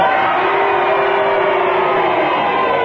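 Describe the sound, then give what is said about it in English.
A studio audience roars together for a few seconds, voting on a challenge with cheers for Kenneth and boos for Clement Freud, blending into one loud, steady wall of crowd noise with no single voice standing out. “And if you disagree, would you please boo?”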